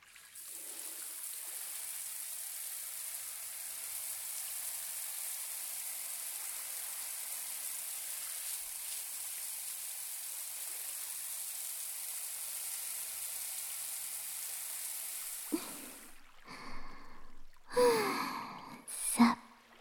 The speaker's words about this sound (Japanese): それじゃ目をつむっててくださいね。流すとき泡が入っちゃいますから。